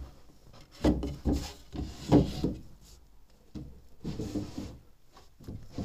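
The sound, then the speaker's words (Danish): Empty wooden drawers in a house slide open and shut several times, with scraping, rubbing bursts and light knocks at an irregular pace, moderately loud, with no talking. “Skuffer, der er tomme.”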